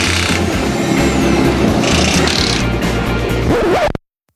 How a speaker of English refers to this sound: Car sounds?